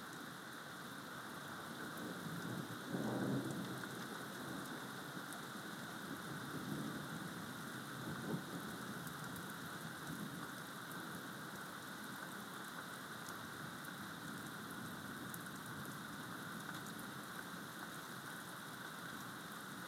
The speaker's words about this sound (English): Oh, there's more. The rain's heavier as well.